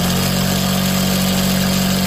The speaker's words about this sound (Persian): ماشین‌های خیاطی. کوچه کاست فروشی به کوچه خیاطان مبدل شده.